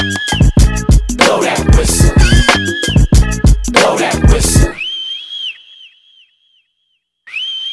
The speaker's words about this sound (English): Get you if you don't blow that whistle. Blow that whistle. Blow that whistle.